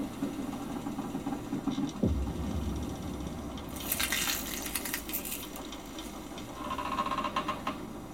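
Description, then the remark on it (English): A low, steady rumble of a ship with waves washing and splashing against the hull in bursts, and a faint seagull cry far off near the end. No one speaks. “Just the ship rocking with the waves and a distant seagull calls.”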